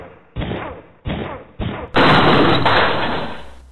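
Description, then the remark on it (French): Three heavy, evenly spaced blows strike a prison cell door, then a loud splintering crash as it bursts open, with a long noisy rattle of debris afterward. Forceful, no voices. “KRODE, défonce la porte.”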